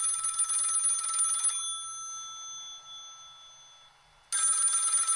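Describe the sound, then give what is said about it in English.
A telephone rings twice at the start of a recorded phone call to Rick Springfield, each a loud, bright electronic trill lasting over a second, separated by a pause of lingering tone and quiet. No voices are heard. “I actually have the audio of a phone call between Rick Springfield, and he's being confronted by his pal”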